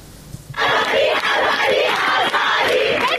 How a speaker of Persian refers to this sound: فریاد اعتراض دانشجویان در ده‌ها دانشگاه ایران روز چهارشنبه به مناسبت 40 مهسا امینی، زن 22 ساله اهل سقز که در بازداشت گشت ارشاد جان باخت. تجمعاتی که تا ساعتی پیش در شب ادامه داشت، مثل اینجا در کوی دانشگاه تهران.